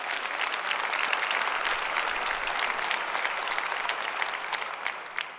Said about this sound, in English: And I want to ask you for a round of applause, because without these people, this would not have been possible.